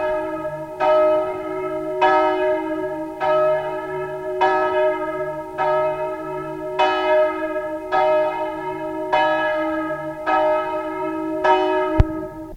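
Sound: church bell ringing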